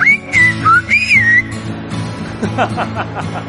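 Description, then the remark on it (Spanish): Silbo Gomero, the whistled language of La Gomera in the Canary Islands: loud, gliding whistled phrases rising and falling in pitch for over a second, then fainter short chirps over a steady low hum and soft background babble. “¡El Silbo Gomero! ¡El Silbo Gomero!”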